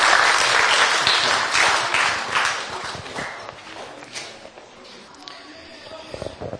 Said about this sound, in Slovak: Môžeme dať za to potlesk Pánovi.